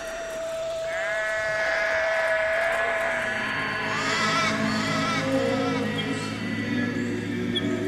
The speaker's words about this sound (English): we're just looking over green paddocks quite a lot of sheep in the paddock there from the local farmer. We're surrounded by farmland.